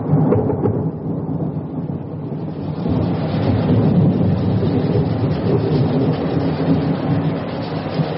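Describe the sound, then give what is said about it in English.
A thunderstorm rumbles steadily, with deep rolling thunder swelling and sustaining over a constant wash of rain-like noise. Loud and continuous throughout, with no voices present. “Where would I go with you? Away from the storm.”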